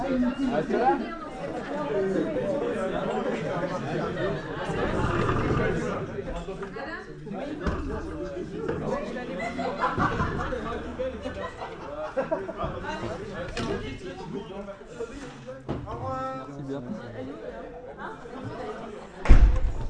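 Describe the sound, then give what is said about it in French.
Students chatter over one another in a classroom, a steady, dense hubbub of overlapping young voices with occasional laughs, ending with a sudden thump. “voilà, les élèves sont installés.”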